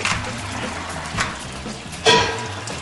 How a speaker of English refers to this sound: All right, we got our temperature where we want it here, and now we're going to pull this off. We're going to add the water to our cooler down here.